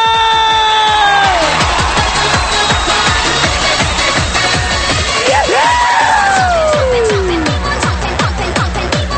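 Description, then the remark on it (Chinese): A loud, dense crowd roars with applause and high-pitched screams and whoops after a dance performance, some rising and falling in pitch, over a steady rhythmic pulse, sustained throughout without pause. “掌声尖叫过来”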